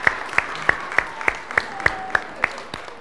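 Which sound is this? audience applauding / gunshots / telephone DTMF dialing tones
audience applauding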